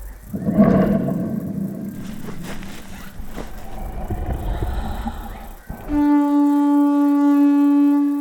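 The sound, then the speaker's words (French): A lion roars while walking in circles: a deep, rumbling roar swells loudly and churns for several seconds, then gives way to a steady, sustained droning blast that holds to the end. “Mais le lion refuse et il continue de rugir et de tourner en rond.”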